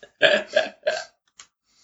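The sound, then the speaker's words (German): Three loud burps come in quick succession, each a short, throaty croak, followed by a brief faint click and then quiet. “Nein, wenn wir dann aufstoßen muss, riecht es danach immer so ein bisschen nach Rettich halt.”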